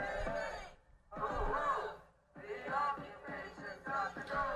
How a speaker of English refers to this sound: In Crystal City, Virginia, just across the Potomac River from Washington, D.C., by the Pentagon, a gang of Democrats is there protesting outside Boeing, anti-military contractors, and they're screaming and yelling.